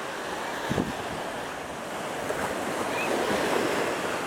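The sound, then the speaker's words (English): Ocean waves wash continuously onto the shore in a steady, loud roar of surf, with a few swelling surges and some wind buffeting the microphone. No one speaks. “The one who made this ocean, the oceans, made the earth.”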